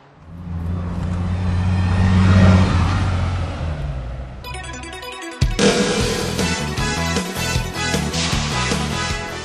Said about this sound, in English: Now, this bus is on its way to Akihabara.